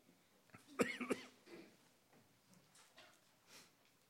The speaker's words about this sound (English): Sorry about my cough.